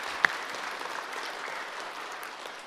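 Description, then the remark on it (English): An audience in a church claps steadily in a dense, even patter of many hands, with one sharper clap standing out near the start. No one speaks over it. “So can I have a wee round of applause for all the mummies and daddies that sent the boys and girls, and all the boys and girls and the workers.”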